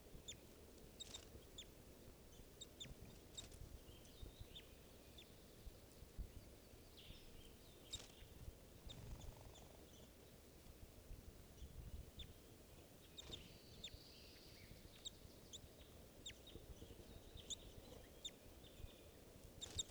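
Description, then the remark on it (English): Several birds chitter in quick, scattered bursts of high calls as they try to go down to the water, over a steady low rumble of outdoor background noise, fairly faint, with no one speaking. “Birds are chittering, trying to go down to the water.”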